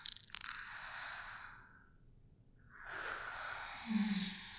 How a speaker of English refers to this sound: Let's start by taking some deep breaths. Just like that. Let oxygen fill your lungs.